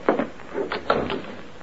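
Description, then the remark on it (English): A door being opened: a quick series of short latch clicks and wooden knocks spread over about a second and a half, moderately loud, with no voices. “The door.”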